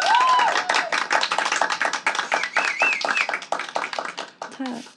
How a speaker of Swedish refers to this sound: Kan jag få en applåd för det?